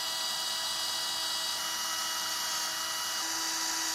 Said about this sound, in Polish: No i teraz, żeby te daszki się trzymały, to musimy je nawiercić. Ja mniej więcej to sobie je ustawiam. 4 dziury. Ja wszystko wiercę wiertłami do metalu.